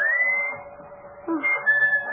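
A person whistles a long, steady signal note, held for a couple of seconds with a slight lift near the end, moderately loud and heard alone without talking.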